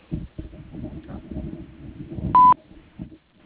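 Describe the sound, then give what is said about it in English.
A single short, loud electronic voicemail beep cuts in, signalling the start of a message recording after a phone greeting, over a dull, low rumbling line noise that fades out afterward. “If you'd like to leave your name and number after the beep, I'll be glad to return your call.”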